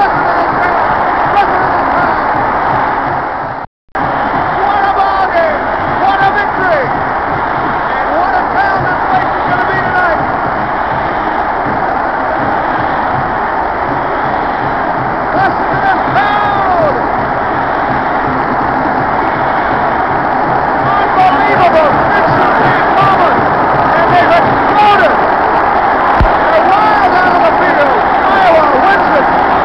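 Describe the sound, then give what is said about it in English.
A huge stadium crowd roars and cheers wildly in a sustained, dense wall of noise, with whistles and shouts rising above it, broken once by a brief dropout early on, as Iowa Hawkeyes fans celebrate an 11-10 win over Michigan. “Listen to this crowd!”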